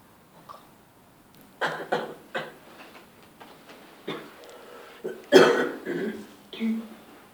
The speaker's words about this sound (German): Der Hüter räuspert sich ein bisschen und hustet.